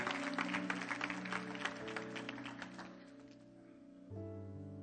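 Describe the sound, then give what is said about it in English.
Scattered hand claps from people standing in a church ring out for about three seconds over a sustained, organ-like chord, then thin out and stop while the held tones carry on and shift to a new chord. “If I got that, two or three hand claps.”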